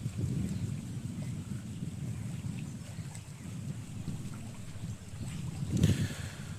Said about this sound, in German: Windig. Boah.